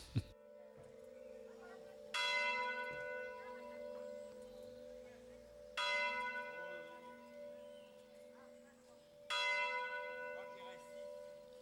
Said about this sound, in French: les cloches qu'on entend dans ce reportage sont bien celles de Rumingol qui avaient été enregistrées quand elles fonctionnaient encore par Mathieu Jules, le campanologue